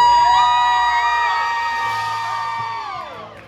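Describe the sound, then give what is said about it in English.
A live audience cheers and whoops loudly for the USA when asked to make some noise, a dense wash of voices with high shrill whoops rising above it, holding steady for a few seconds before gradually fading. “If you're grateful to be from the greatest country in the world, come on, make some noise for the USA.”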